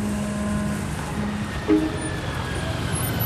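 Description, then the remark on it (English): A shuttle bus rumbles in and arrives at an airport pickup area in the town of Snowflake, with a steady, fairly loud engine drone and broad road noise, broken by a short tonal chirp partway through. “A shuttle bus arrives.”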